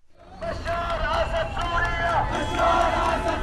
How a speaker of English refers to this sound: This pro-Assad crowd was still on the streets hours after the assault.